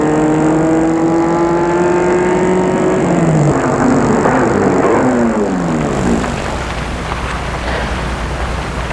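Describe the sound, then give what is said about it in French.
A car engine hums steadily, then sweeps past a man walking in a deserted street with a falling Doppler drone around the middle, fading into wind-like road noise as it moves away. “Voiture le dépasse.”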